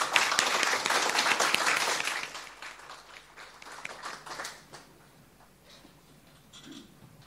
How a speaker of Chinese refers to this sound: 请大家用掌声邀请麦国豪先生。